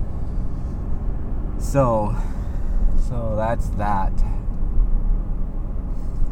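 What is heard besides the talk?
car driving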